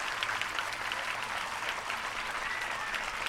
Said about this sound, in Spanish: Gracias, compañeros, y por favor, dale un aplauso a vuestros maestros y maestras.